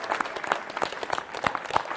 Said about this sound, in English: Round of applause for all these wonderful...